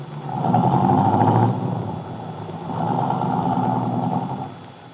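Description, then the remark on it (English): Bill's car engine rumbles in two drawn-out swells separated by a brief lull, a steady mid-loud drone as the car pulls off and drives away, with no voices. “Carla Descari waved happily after Bill's car.”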